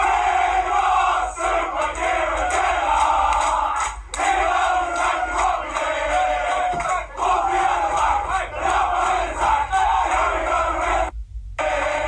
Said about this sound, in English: They did it in style, thumping Exeter 6-0. The squad enjoyed the celebrations and serenaded their manager.